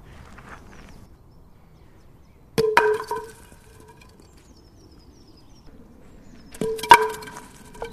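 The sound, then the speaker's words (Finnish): Two sharp wooden clatters, each a thrown baton striking and scattering wooden pins with a few rattling follow-up knocks, separated by several seconds of quiet low rumble; a team game with four players per side, aiming to clear the field of pins with as few batons as possible. “Eikä mahdollisimman vähillä sauvoilla saada kenttä tyhjäksi.”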